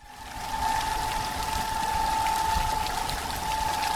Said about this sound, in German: Er plätschert fröhlich vor sich her, der Brunnen.